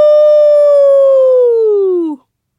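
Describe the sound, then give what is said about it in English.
A single loud, sustained wailing tone, like an alarm siren, holds steady for about two seconds before sagging in pitch and cutting off abruptly. It may be a voice imitating the siren. It is an alarm sounded in Lagos, heard from well outside the city. “The siren blares, deafening despite how far we are from the city.”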